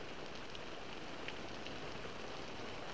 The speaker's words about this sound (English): Sure sounds neat when it rains on a tent, doesn't it, Wally?